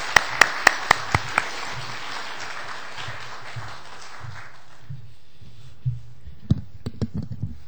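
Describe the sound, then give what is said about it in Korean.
A church audience at a Thanksgiving service applauds to welcome a visiting pastor, a dense, steady wash of clapping with a few sharp claps standing out at the start. The applause fades out after about five seconds, leaving a few scattered claps. “박수하시겠습니다.”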